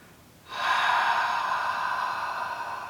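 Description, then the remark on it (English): A single long, forceful open-mouthed exhalation, a breathy "haaaw" done as the heart sound in a breathing practice, that begins abruptly and holds steady for over two seconds, with no talking. “A-H-A-W. Think that you're exhaling excess heat.”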